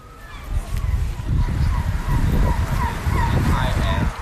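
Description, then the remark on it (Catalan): Outdoor harbour ambience in Tromsø, northern Norway, 350 km north of the Arctic Circle, with steady low wind and engine rumble, boat motors churning beneath scattered gull calls crying over continuous background noise. “És el somvient de Tromsø, és un lloc bastant idíl·lic, ens ha dit, vent, vaixells, gavines, motors.”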